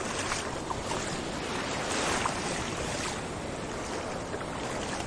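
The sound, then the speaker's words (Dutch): Steady, full-band rush of wind and breaking surf at high tide, continuous, with water sloshing and splashing as someone steps from the beach into the shallow waves of the North Sea. “Het waait en het is vloed en ik stap vanaf het strand de Noordzee in.”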